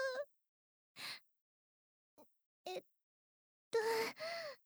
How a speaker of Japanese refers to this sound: 見つめ合い、触れ合いもセックスの一部です。 ハァハァしてる。